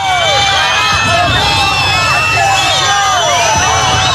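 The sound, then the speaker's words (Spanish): A large crowd jeers at President Sánchez continuously, with many shrill whistles rising and falling over a dense roar of voices and booing, loud and sustained throughout without a pause. “Y un año más, tampoco han faltado los abucheos y pitos al presidente Sánchez, a pesar de sus esfuerzos por no dejarse ver ni al llegar ni al marchar.”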